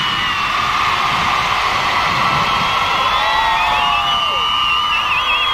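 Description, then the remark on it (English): A large crowd at a radio station's roadshow cheers and screams continuously, a dense wall of high-pitched voices with occasional whoops and shrieks rising above the steady roar, loud throughout. “biggest and the best radio station in the land brings you the biggest and the best roadshow with the biggest and the best crowd.”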